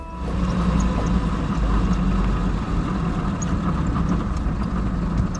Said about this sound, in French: Voilà justement un taxi qui s'arrête devant votre porte.